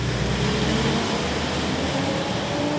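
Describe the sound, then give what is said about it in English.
Heavy Turkish military trucks rumble past a tea house on the Turkish side of the border, a few dozen yards from it, on their way to cross into Syria: a loud, steady roar of engines and tires with a deep low hum that barely changes over a few seconds; no one speaks. “As men watch news about the latest on the ceasefire between the army and Kurdish militants, large Turkish military trucks roll by on their way to cross into Syria.”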